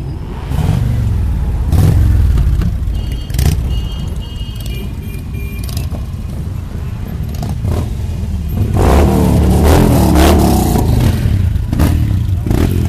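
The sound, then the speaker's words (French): Loud motorcycle engines rev and roar at a motorcyclists' protest in France, with throttle bursts rising and falling over a steady mechanical rumble and occasional clatter, growing louder toward the end. “et aussi des beaux bruits de moto.”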